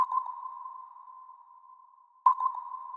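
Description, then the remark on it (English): Two clear underwater sonar pings, sound waves sent out to detect and locate ships or objects in the water. Each is a sharp tonal beep that rings out and slowly fades, the second arriving a little over two seconds after the first, with no voices. “A sonar sends out sound waves to detect and locate other ships or objects in the water.”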